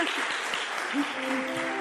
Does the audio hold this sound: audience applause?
yes